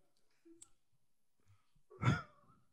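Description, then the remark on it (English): A person imitates a fart with their mouth, reenacting how a real fart sounded: a single short, buzzy burst with a low rumble, lasting under half a second, preceded by a few faint clicks and breathy sounds. “If you have to reenact the sound of the fart.”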